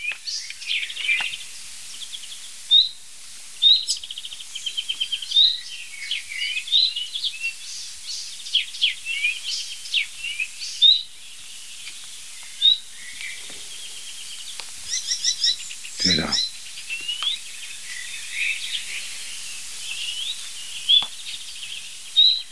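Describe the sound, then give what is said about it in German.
A nightingale sings continuously, rich varied phrases of whistles, trills and sharp chirps repeating in bursts, clear, with no talking over it. “Nein, das ist die Nachtigall.”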